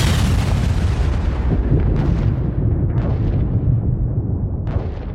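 Continuous rumbling explosions with heavy low-end booms, punctuated by several sharp blasts that flare up every second or so, loud, with no voices.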